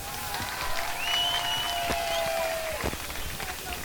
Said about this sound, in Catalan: Aplaudiments per aquesta presentació inicial.